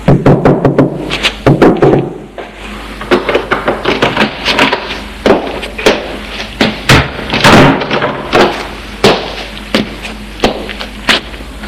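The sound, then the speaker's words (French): Sharp wooden knocks and thuds on a small door marked 'inscription' in the administrative corner where students register, followed by a series of irregular clunks and rattles as the door is handled and opened. No one speaks. “Frappe et entre.”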